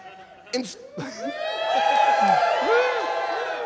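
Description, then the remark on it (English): A nightclub crowd cheers and whoops, many voices rising together after a few scattered shouts, building into a loud, sustained roar that holds steady for a few seconds. “Everyone cheers.”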